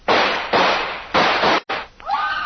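Four loud revolver shots go off roughly half a second apart, each a sharp crack with a rough, lingering tail, and a high-pitched wavering scream rises right after the last one.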